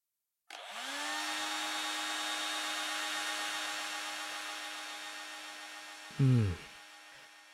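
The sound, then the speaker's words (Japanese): A hair dryer switches on to dry a seated person's hair and blows steadily, a loud, even whoosh of air over a low motor hum, with a short low thump near the end and no voices. “じゃあ今から乾かすから、ドライヤーの風、暑かったら行ってね。”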